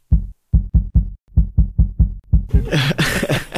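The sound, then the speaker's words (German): A muffled heartbeat, picked up by a microphone held against a person's carotid artery in the neck to measure the pulse, beats in a steady, fairly quick rhythm of low thumps, about nine beats, before rough rustling, like a microphone being handled, takes over. “Ich halte mal kurz das Mikrofon an deiner Halsschlagader.”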